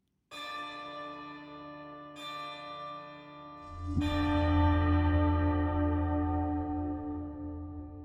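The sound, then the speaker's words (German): A large church bell in Glarus tolls three slow, heavy strikes, each leaving a long, shimmering hum that swells into a deep, resonant drone. It rings loud, with no voices. “Die Glocke von Glarus.”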